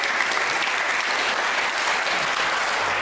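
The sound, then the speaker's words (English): An audience applauding steadily, a dense, even wash of many hands clapping at a constant loud level for the whole stretch, with no voices standing out. “Big round of applause.”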